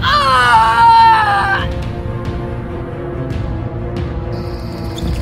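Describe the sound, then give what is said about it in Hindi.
A girl clutching her stomach screams in pain, with black froth coming from her mouth, a loud, wavering, drawn-out cry lasting about a second and a half before breaking off, leaving a low rumbling background with a few faint knocks. “दर्द के मारे पेट पकड़े जोर जोर से चीख रही थी और उसके मुंह से काला झाग जैसा कुछ निकल रहा था।”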